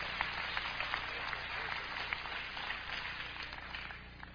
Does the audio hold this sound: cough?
no